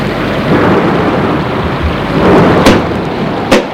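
thunderstorm with rain

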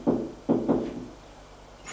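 knocking on a door

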